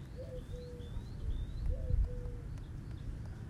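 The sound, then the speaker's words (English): Birds call outdoors in the morning: a few repeated whistled notes and higher chirps over a steady low rumble of ambient background noise. “And for now, I'm present to the bird sounds.”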